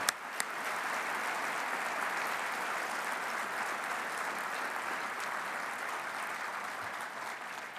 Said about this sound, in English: I wish you would give them a round of applause.